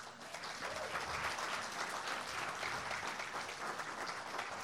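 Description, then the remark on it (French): Steady applause from an audience honouring first-time visitors, many hands clapping in a dense, continuous wash that holds at an even level for several seconds without any talking. “On peut vous applaudir.”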